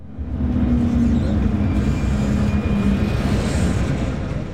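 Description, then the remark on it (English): An MTR train in Hong Kong runs steadily with a loud, continuous low rumble and a faint hum of motors, with no one talking. “The main form of transportation here in Hong Kong is the train, called the MTR here, a bus, or my favorite, the minibus.”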